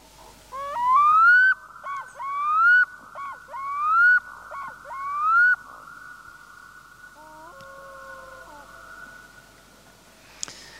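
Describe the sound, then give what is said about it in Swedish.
A black-throated loon gives four loud, rising, nasal calls in quick succession, each about a second long, followed by a quieter pair of level, honking notes and a steady background hum. “Ett omisskännligt läte det där, eller hur?”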